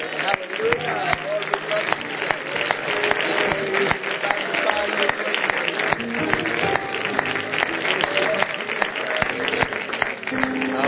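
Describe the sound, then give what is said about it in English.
A crowd claps steadily and continuously as a hand clap of praise to the Lord, a dense wash of hand claps mixed with cheering voices, holding a fairly even loudness throughout without fading. “Let's give the Lord a great big hand clap of praise.”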